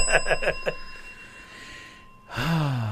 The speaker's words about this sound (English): Ring that bell.